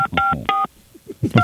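A phone number is dialed live on Don Geronimo and Mike O'Mara's national radio show: several quick touch-tone beeps, each a steady two-pitch tone, in a fast irregular run, followed by faint low murmuring and a brief louder voice-like sound at the end.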